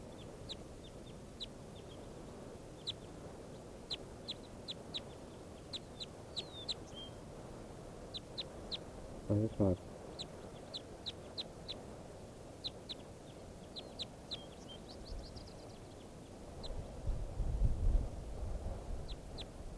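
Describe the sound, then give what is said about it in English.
Short, high chirping calls of a bird logged as number 585 repeat steadily for about twenty seconds, recorded as a test with a new battery in the microphone, with one louder, harsher squawk midway over a low background rumble that swells near the end. “Testing bird 585 again with a new battery in the microphone.”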